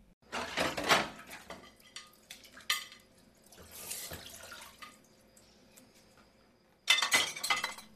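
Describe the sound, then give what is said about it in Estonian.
Dishes clink and clatter repeatedly as they are washed in a kitchen, with bright ceramic and glass knocks in uneven bursts, water splashing between them and a final loud cluster of clinks. “Ei, ma siin vaikselt vaatasin, et mõned nõud on pesemata ja et nagu, et pesened ära või nii.”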